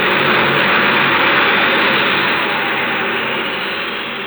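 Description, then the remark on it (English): A steady, loud engine roar like an airplane's as a plane departs with Mr. Diotto aboard, a broad rushing drone that slowly fades as it moves away. No voices. “It appears we are too late to take Mr. Diotto off that plane.”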